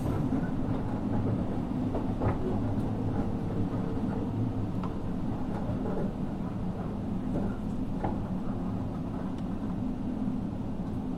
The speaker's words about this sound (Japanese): この列車は普通列車の大府行きワンマン列車です。